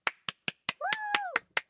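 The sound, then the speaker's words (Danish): A short burst of steady, evenly spaced claps from one person, about eight sharp hits, with a brief voiced, sung-sounding tone over the middle claps. “Ja, men du får sgu et lille bifald, fordi Det er sin sag men, lige at få svar på det der.”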